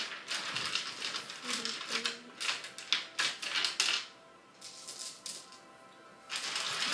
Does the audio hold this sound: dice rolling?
yes